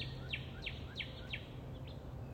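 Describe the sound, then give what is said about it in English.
A downy woodpecker, in the morning, gives a quick series of five sharp, high calls, each dropping slightly in pitch, spaced unevenly and heard faintly over a low outdoor hum. “I mean, they're always around, but this is the third day where, in the morning, I believe it's a downy woodpecker.”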